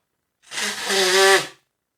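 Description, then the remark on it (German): A single nose blow lasting about a second: a loud, breathy rush of air with a faint honking, nasal tone running through it, swelling and then cutting off, with silence on either side. “Ich muss mir ganz kurz meine Nase putzen, ihr Lieben.”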